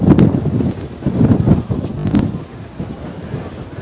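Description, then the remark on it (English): Strong wind buffets the microphone in loud, rumbling gusts on a very windy night during a high school game at Harbor Beach High School, a continuous low roar that swells and eases over a few seconds with no voices. “The Bearcats with the lead on a very windy night here from Harbor Beach.”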